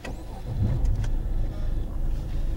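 A car engine hums steadily at low pitch as the vehicle drives, with a continuous rumbling drone and a few brief clicks or rattles near the start. The car is a high-mileage one, now at 310,000 km. No one speaks.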